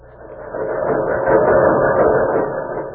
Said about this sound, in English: The American farm of today is completely mechanized. Threshing machines.